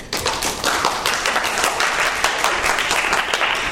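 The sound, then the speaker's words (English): A live classroom audience at the University of North Dakota School of Law applauding steadily, dense overlapping claps at a fairly loud, even level throughout, with no voices standing out. “We applaud because that's how we prove we're in front of a live classroom audience.”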